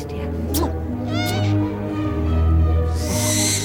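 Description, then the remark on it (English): Several owls perched on a car roof rack outside a house, in a scene from Harry Potter, hoot in low, drawn-out calls that overlap one another, with a brief rush of hissing noise near the end. “She stares at the owls perched on the car roof rack.”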